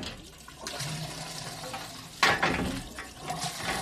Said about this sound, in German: Du, Felix, wo fließt eigentlich all das Wasser?